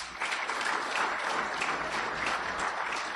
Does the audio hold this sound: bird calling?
no